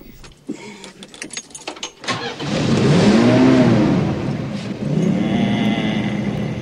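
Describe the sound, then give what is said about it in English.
A jingle of keys and clicks, then Grandpa turns the ignition and his car engine cranks and catches with a surge of revving, settling into a steady, rumbling idle as it warms up. “Then, grinning, Grandpa turns on the ignition.”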